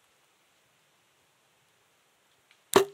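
After a long stretch of near silence, a single sharp snap and brief twang ring out as an arrow is released from a bow, fading quickly.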